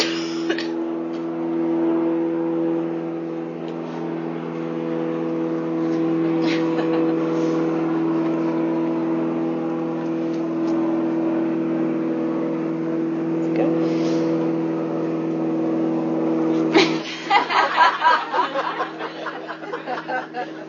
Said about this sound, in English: Plane's just flying over our head.